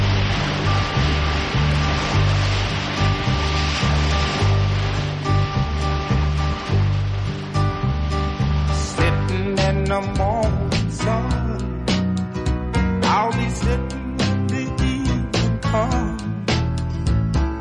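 Continuous rushing surf at a shoreline at the bottom of Manhattan, a steady, loud wash of breaking waves blended with a music track carrying low bass notes and sustained tones, no one speaking.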